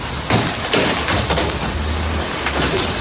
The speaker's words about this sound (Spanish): El calor asfixiante ha dado paso también al viento y a precipitaciones en distintas partes del país, algunas de forma de granizo.